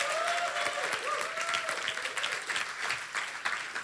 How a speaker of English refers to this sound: Go ahead. Give her a hand clap as she comes forward.